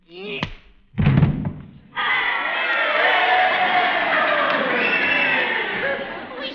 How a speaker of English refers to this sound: This is the way the crowd wanted it to end. You heard them cheering, didn't you?